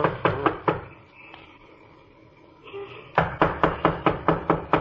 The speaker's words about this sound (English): Well, knock on the door anyhow.